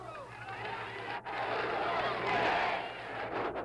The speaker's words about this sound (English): The crowd responds with a chant. Right on, Fidel. Give it to the Yankees hard.